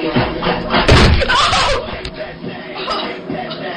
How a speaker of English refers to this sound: three white boys come out and they start dancing, and then one of them knocks the other one right into the table, and you can hear him just smack it.